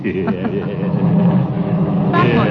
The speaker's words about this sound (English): Huh? What's wrong with the car? The car? It's steaming.